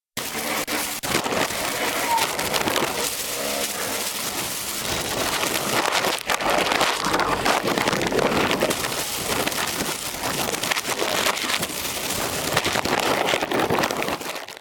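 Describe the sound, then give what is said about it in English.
A plastic bag holding a recorder, held out of the window of a car moving through Tangier, flaps and crackles hard in rushing wind, a dense, steady rustling roar that fills the whole stretch with rapid, irregular snaps and flutters. “The recorder was placed in a plastic bag, which I held through the window of the car, so you can hear the noise of the plastic against the wind while the car is moving.”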